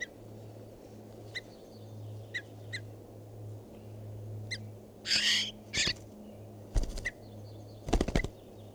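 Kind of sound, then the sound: bird, bird call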